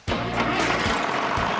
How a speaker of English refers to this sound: Believe me, it takes a lot of power to chop corn.